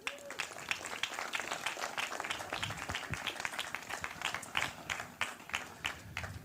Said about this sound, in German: Ja, gern. Dann auf. Applaus bitte.